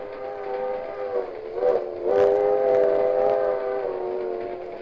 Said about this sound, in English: It is dawn, and out of the cool mists of the morning comes a long silver and scarlet train. It's the circus.